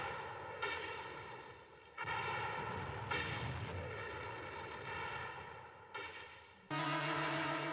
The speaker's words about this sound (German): Der Spannungssoundeffekt gerade. Das sind gerade die Explosionen. Ja, ja, die sich anhören wie eine große Schlacht um die Erde, ja.